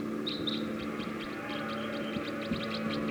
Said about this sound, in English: Very rapid now. Looks like they might take off. Decoys calling loud now.